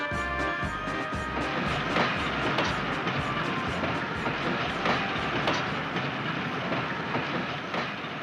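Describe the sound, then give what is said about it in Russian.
A fast train bound for Nizhny rolls along the rails with a steady rumble and a rhythmic clickety-clack of wheels over track joints, continuous and fairly loud throughout. “Еще в поезде Остап успел побеседовать с завгидропрессом монтером Мечниковым и узнал от него все.”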